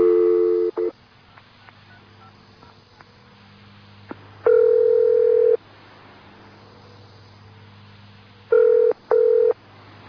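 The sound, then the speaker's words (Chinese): Quick beeps of a phone number being dialed on a telephone, followed by two long electronic ringing tones with pauses between them, the call going unanswered. Clear, with no voices. “我打电话睇下佢傻妹做紧啲咩先。”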